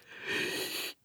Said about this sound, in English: Yawn. Tiger snuggles down in the grass and falls asleep.